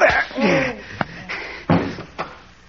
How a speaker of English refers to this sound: Why, Pete, you knocked him out. With one punch.